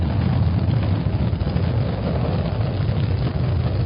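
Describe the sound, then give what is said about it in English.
A powerful rocket main engine roars in a steady, continuous low rumble, loud, with no voices and no break throughout, running until main engine shutdown as orbit is achieved. “Main engine shutdown. Orbit achieved.”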